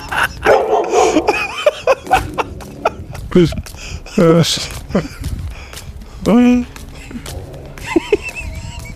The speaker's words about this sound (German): Ich bin mit meinen Latschen durch die Altstadt in Italien gelaufen, hab dabei ein Stück Pizza gegessen und wurde dabei von Hunden angebellt.